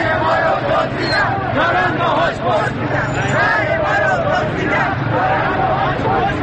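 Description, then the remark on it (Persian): A loud, dense crowd of street protesters, many voices shouting and overlapping in a steady, unbroken roar with no clear individual words or pauses. “پایش که به خیابان می رسد، صدای اعتراض مردم را می شنود.”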